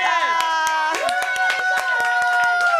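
Audience applause: sharp, irregular claps rattle along steadily and loudly, layered over sustained, wavering tonal sounds that hum underneath throughout.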